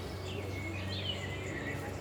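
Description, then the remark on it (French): Small house sparrows chirp and twitter in quick, overlapping calls over a steady low mechanical drone of a lawnmower running behind them. “Là, il y a des petits moineaux, mais il y a aussi une tondeuse derrière.”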